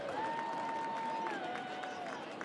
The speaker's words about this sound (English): Get a lot of crowd reaction on foul balls that go straight back here in Reno because they frequently hit high off the structure of the stadium and then bounce softly into the crowd down below.